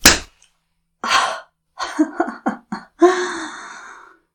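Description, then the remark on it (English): A single sharp slap on the face cracks at the start, followed by a series of breathy gasps and short vocal moans with no words spoken. “And another slap.”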